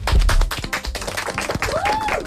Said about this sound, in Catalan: I tots heu de dir com són aquests sons de festa. Esteu preparats? Sí! Idò, vinga. Heu de fer tots com sona un aplaudiment.